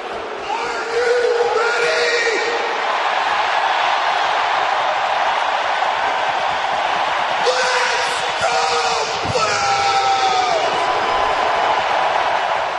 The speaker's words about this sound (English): I thought the … was going to lose a golden lung on that one. That's a tremendous yell.